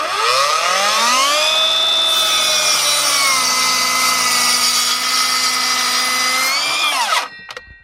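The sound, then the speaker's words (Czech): A cordless miter saw whines up to speed and bites steadily through a wooden log for several seconds, loud, then winds down and stops abruptly near the end, in the Ore Mountains (Krušné hory). “zastihla ho v plné práci s aku pokosovou pilou.”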